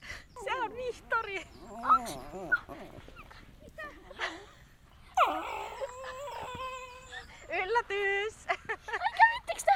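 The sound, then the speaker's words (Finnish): Several dogs whimper and whine in high, wavering cries, broken by short yips and a few barks, the noisy chorus rising and falling throughout. “Tiina Raivaaran laumassa lapset ovat oppineet ymmärtämään koirien kieltä, kuten äänähdyksiä, hännän ja pään asentoja, kasvojen ilmeitä, kehon rentouden, jännittyneisyyden ja haukkumisen eri vivahteet.”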